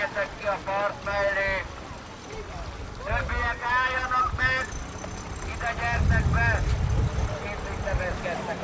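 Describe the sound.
A small motorboat with an instructor aboard rumbles low on the Danube, accompanying a rowing school of about a dozen boats for young rowers. The engine grows louder toward the end, while several voices call out and talk over it outdoors with some wind.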